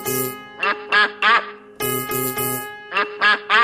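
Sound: duck quacking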